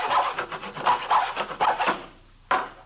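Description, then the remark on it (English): A man saws a piece of plywood with a hacksaw in a small workshop at the rear of a garage, quick steady back-and-forth rasping strokes for about two seconds, then a short pause before one more stroke. No one speaks. “We found him in the small workshop at the rear of the garage where he was sawing on a piece of plywood with a hacksaw.”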